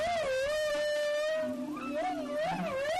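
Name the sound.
whale song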